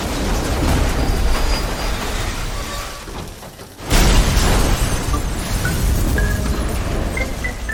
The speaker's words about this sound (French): qui a été mordu par son chien entre-temps, s'est transformé en zombie et vient s'exploser sur les grilles du commissariat.